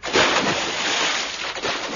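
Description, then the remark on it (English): Water splashes and churns loudly and steadily for a couple of seconds as people fall into it, a continuous wash of sloshing with no voices. “They've fallen in the water.”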